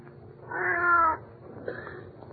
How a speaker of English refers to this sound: Well, for the love of Pete, it's just a cat.